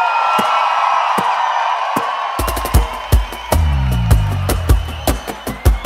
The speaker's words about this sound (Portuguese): bate palma e dá um grito